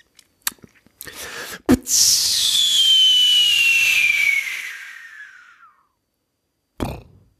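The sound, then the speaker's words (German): A voice imitates a firework rocket: a few sharp mouth clicks for the lighting, then a long descending hissing whistle as it flies off, fading out, followed by a final short burst. “An der Explosion am Ende muss nur arbeiten, aber ich finde das Anzünden und Wegfliegen finde ich großartig.”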